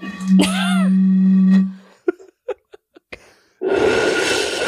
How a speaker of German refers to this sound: Ich pfeife mal über meine Flasche.